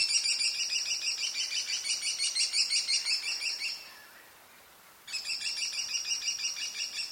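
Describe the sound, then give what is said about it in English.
Kestrel calls: rapid, shrill, high-pitched notes repeated in a fast run for several seconds, a brief pause, then the series starts again. Fairly loud, with no talking. “Community conservation can be the key to the kestrel's success.”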